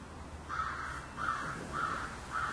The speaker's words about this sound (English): Do you hear that? That's saying a lot more than what could ever say. The crow, doing what it's doing.